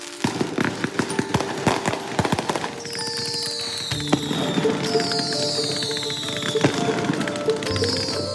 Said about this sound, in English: Fireworks, loud ones, keeping you up all night ones.